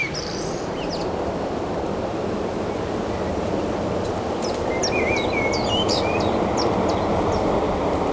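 A common blackbird sings short, clear phrases, mostly in the second half, above a loud, steady roar of ocean surf that fills the whole recording, on the Sizun nature reserve overlooking the ocean.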